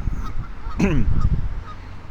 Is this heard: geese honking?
yes